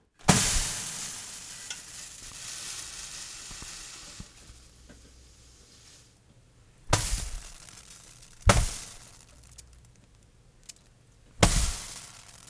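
Water sizzles on a hot burner: a loud hiss that slowly fades over several seconds, followed by three sharp, spitting bursts of sizzle that each quickly die away.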